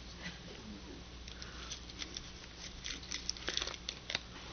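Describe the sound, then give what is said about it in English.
A paper bag crinkles and rustles in short, irregular bursts as someone tries to get into it, growing busier and louder toward the end, with no one talking. “If I could get into the paper.”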